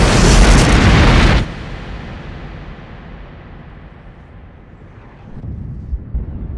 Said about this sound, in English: And then, the disruptor cannon fired again. The whole bulkhead blew apart, and the corridor opened up to space.